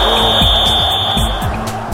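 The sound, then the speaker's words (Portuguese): The signature whistle of the sports program 11 Minutos: a single long, shrill blast holds one steady high pitch for about two seconds, sounding loudly over a busy, rumbling background of noise with faint low thuds. “Quando você ouve o apito do 11 minutos, já faz associação com esporte.”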